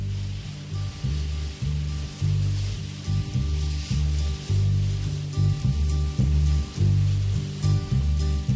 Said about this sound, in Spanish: Ahí va, a escuchar olas.